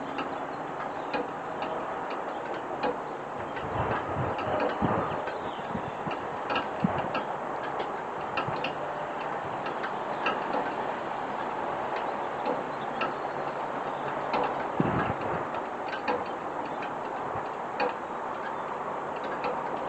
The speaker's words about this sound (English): Unfortunately, all I can capture at 6:45 in the morning is a bunch of traffic in the distance and the slight sound of the dripping of the downspouts.